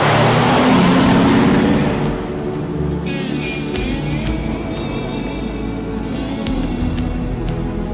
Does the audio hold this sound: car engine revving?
yes